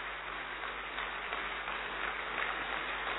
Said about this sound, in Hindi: दूसरी ताली होगी हमारी प्यारी दादी अपनी एडवांस पार्टी के साथ हमारे बीच पहुंचे, ऐसी जोर से हम ताली बजाएंगे कि हमारी दादी भी हमारे बीच में पहुंचे।